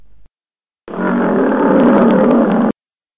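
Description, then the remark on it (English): A single loud lion roar bursts in after a brief moment, holding steady and sustained for nearly two seconds before cutting off abruptly into silence. No one speaks. “I concur, Lion McGlion.”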